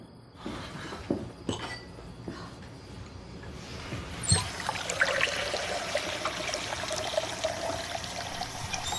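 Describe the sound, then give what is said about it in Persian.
A few light clicks and clinks, then water pours steadily into a glass, a continuous splashing stream filling the second half without any voices. “میخوای بهت یه لیوان آب بدم؟ بهت یه لیوان آب میدم.”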